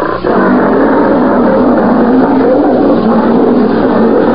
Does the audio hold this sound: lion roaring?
yes